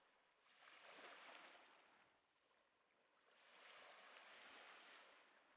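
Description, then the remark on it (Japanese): Ocean waves wash onto a shore in two slow, broad swells, each rising into a soft hissing roar and then easing back, played as a soothing sound through bone-conduction earphones. Steady, with no voices. “今後輩くんは海にいますよ。”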